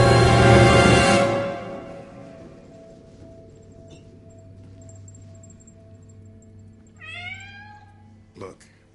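A cat lets out a single, drawn-out meow near the end, fairly clear, after a loud rushing burst at the start and a steady low hum underneath.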